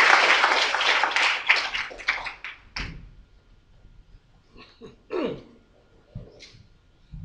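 A burst of audience applause at a church gathering, welcoming a pastor who is about to speak. The clapping is dense and fairly loud and fades out after about three seconds, followed by scattered soft thumps and shuffling noises.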